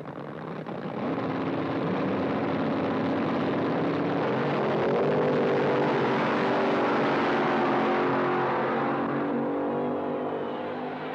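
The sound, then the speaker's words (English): A front-engine top fuel dragster roars down the strip in the Top Fuel Eliminator final, with Garlitz's Swamp Rat racing. Its loud, raw engine note climbs in pitch as it accelerates and holds at full blast for about ten seconds, with no talking. “There's so much history there with that car and all the other front-engine dragsters.”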